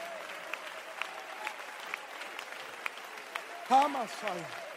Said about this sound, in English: I'm going to stay in the presence of God until he reveals. Somebody clap your hands for a while.